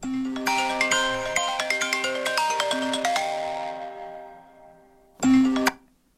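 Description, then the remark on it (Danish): A telephone rings with a melodic ringtone before a call from Radio 4 is answered: a quick run of bright chiming notes that ring on for several seconds, then after a short pause a louder burst starts again and cuts off. “Jeg ringer ind fra Radio 4's ulvetiplinje.”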